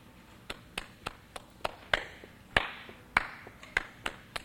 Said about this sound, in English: And I'm going to start off with a little hand clapping. If you get the urge to clap with me, just go right ahead. And some of you may remember this from when you were children. Go something like this.